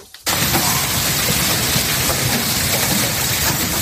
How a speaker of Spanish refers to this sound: ¿Lo oyes, no? Es la tremenda granizada que ha caído este fin de semana en el interior de la Comunidad Valenciana. La tormenta empezó en Albacete, pero lo peor se lo ha llevado, como decimos, Valencia y concretamente el sur de Requena.